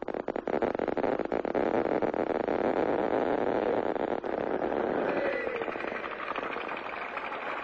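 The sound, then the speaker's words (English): A crowd applauds at a 1963 groundbreaking for new plutonium reactors at Hanford, where JFK used a Geiger counter as a photo op, a dense and steady crackle of many hands clapping at once, holding loud for several seconds before easing slightly toward the end. “Hear that applause back in 1963?”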